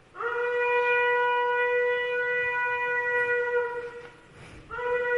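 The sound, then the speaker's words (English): A ram's horn (shofar) blast, played by a trumpet player for Rosh Hashanah, the Feast of Trumpets: one long, steady, brassy note held about four seconds at a constant mid pitch, a brief pause, then a second blast begins. No voices. “Ram's horn. I had to find a trumpet player who could do that.”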